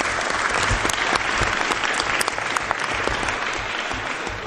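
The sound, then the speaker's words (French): Sustained audience applause for a baby's birth and a press attaché's birthday, a dense wash of many hands clapping at a steady loud level for several seconds, with scattered sharper claps standing out and no clear talking. “Donc on peut les applaudir tous ensemble.”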